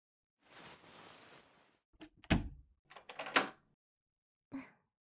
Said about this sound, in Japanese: え？鍵を閉めるの、おかしいですか？だって、誰にも邪魔されたくないですから。